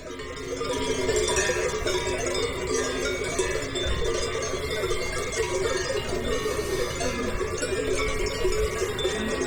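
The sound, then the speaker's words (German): A steady, dense jangle of many cowbells clanking together at once, continuous and fairly loud throughout, with bright metallic overtones and no speech. “Die Glocken deuten es jetzt hier am Ende schon mal an.”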